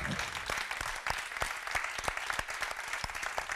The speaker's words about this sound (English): So let's give them a big round of applause.